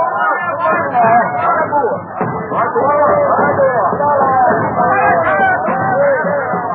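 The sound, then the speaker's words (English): A dense crowd of excited tribesmen in a native village in Africa hails Henry Stanley and his company as they march in, shouting and calling out together, a loud continuous hubbub of overlapping cries with rising and falling pitches, sustained throughout without pause. “A few weeks later, in Africa, Henry Stanley and his company march into a native village and are hailed by excited tribesmen.”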